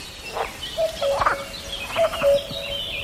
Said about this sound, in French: c'est cadeau, je vous remets le coucou.